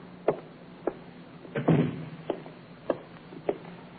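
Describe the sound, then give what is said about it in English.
A door swings and bangs shut with a dull thud, surrounded by several sharp knocks and clatters spaced irregularly, with no talking. “Shut the door, will you, Inspector?”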